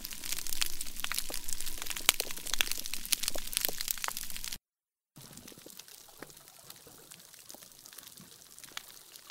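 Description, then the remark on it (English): Reef fish sounds recorded underwater by researchers: a dense, steady crackle of sharp clicks and pops as fish call to each other, then a brief silent break before a quieter, sparser stretch of scattered clicking. No one speaks. “So those are the sounds of all the little clicks and whistles and pops that fish make to each other.”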